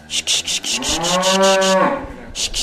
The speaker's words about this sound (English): So this is Granny's favourite cow going up on the scales, if we can get her on. Good girl. Good girl, Pilgrim. Go on.